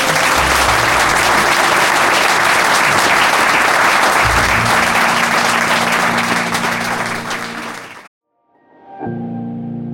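Loud, sustained audience applause with dense clapping for about eight seconds, then a sudden cut to silence followed by a soft tonal music bed.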